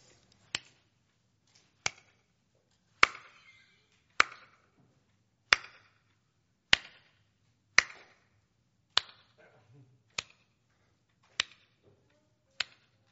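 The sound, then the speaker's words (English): Soft, crisp two-finger claps from a group land in a steady beat, about one per second, eleven or so in a row, as they try to keep a rhythm together, with no talking. “You could do a two-finger clap so it doesn't get too loud.”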